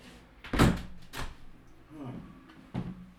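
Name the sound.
window being shut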